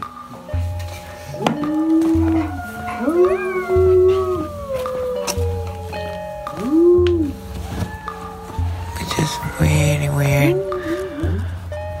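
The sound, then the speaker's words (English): Neighbors in Carmel Valley howl at 8 p.m. in overlapping, drawn-out rising and falling calls, several voices at once, loud, over a steady low droning background for the whole stretch. “Also, they do the weird thing where they howl at 8 p.m.”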